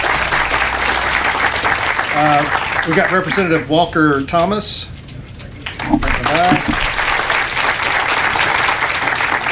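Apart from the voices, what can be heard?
audience applause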